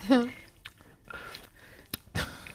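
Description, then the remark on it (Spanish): Wet chewing on a juicy piece of lemon, with a few short crunchy bursts spread over a couple of seconds, opening with a brief voiced murmur. “Mastica. Mastico, joder.”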